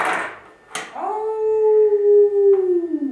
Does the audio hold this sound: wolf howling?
yes